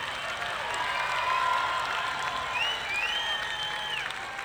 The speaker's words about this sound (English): applause here for the ladies.